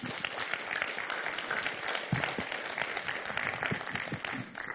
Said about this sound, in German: die heute für uns vom Spanischen ins Deutsche, vom Deutschen ins Spanische simultan übersetzen. Ein Applaus.